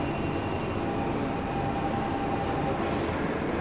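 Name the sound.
london Underground train running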